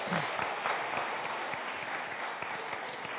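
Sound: audience round of applause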